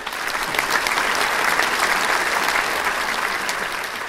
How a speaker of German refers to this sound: Also wir haben eine Urkunde bekommen und wir haben ganz viel Applaus bekommen.